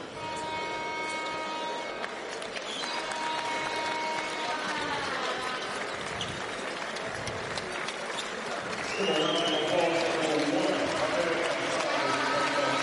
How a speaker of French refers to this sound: Voilà, sportivement, les deux équipes qui applaudissent Azab, ça c'est très très bien.